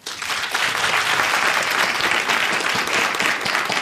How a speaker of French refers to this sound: Je vous demande d'applaudir la parole.